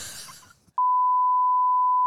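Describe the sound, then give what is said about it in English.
A loud, steady censor bleep covering a spoken name: one flat, high-pitched tone held for over a second, cutting in sharply after a brief stretch of faint background noise fades away. “Beep that out.”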